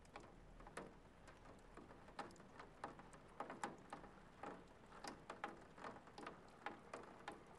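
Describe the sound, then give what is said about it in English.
Irregular drips and patters of rain striking the mangled body of a wrecked car, fairly quiet, with a soft steady wash of background noise and no voices. “The wrecked car sits still and silent with rain dripping on its mangled body.”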